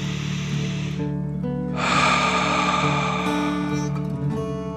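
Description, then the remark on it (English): Audible breathing over steady background music: a deep breath drawn in through the nose, filling the belly, then a stronger, forceful breath out with a rushing, airy hiss, moderately loud, with no talking. “Remember to breathe in through your nose, filling up your belly, and then out, pretending you are breathing fire.”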